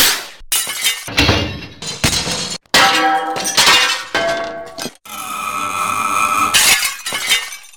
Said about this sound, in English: He runs into Cook's ladder, causing him to sever the cord, and the chandelier comes crashing down.